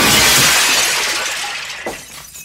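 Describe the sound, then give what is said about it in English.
A loud crash of shattering glass opens at once as Picard smashes a phaser cannon into the model ships behind him. Its bright, crackling debris fades over about two seconds, with one small late clink before quiet. No one speaks. “just starts screaming and waving a phaser cannon around, and then he smashes it into the ships behind him.”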